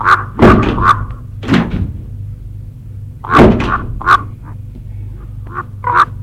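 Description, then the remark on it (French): Car doors click open and shut with several solid thunks and lighter latch rattles, spread unevenly over a few seconds above a low, steady rumble, as two people get out of a car stopped on a small flat path in open countryside. “Ils sortent de voiture tous deux.”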